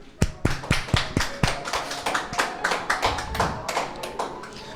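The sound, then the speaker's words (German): An audience breaks into applause for the readers after a reading, a few distinct claps at first quickly swelling into a dense, steady round of clapping from a modest crowd, moderately loud. “Ein Applaus bitte.”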